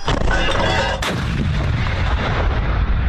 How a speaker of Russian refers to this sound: Ми стріляли на 1000 метрів. Це робиться для перевірки гармати.